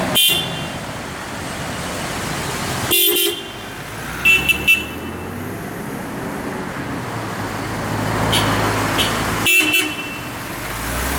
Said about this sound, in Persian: الان حدود ساعت 4:30 صبح هست که با 10 تیم عملیاتی در قالب 30 نفر و با 10 خودرو آمبولانس و خودروی کمکدار در حال حرکت به استان کرمانشاه و منطقه سرپل ذهاب هستیم.